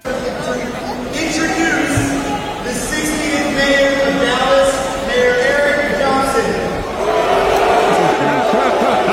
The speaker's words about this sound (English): Speaking of going too far, did you guys see the Dallas mayor out there at FanFest got booed?